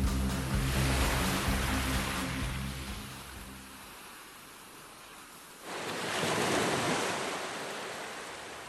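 Ocean waves wash up on the shore in two broad surges, the first receding into a quieter hiss before a second wave crashes in and slowly fades, with no voices.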